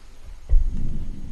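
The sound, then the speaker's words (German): A deep, low rumble of thunder swells up suddenly about a third of the way in and keeps rolling heavily to the end, loud, while church bells ring, with no voices. “Oh, da donnert's und die Kirchenglocken läuten.”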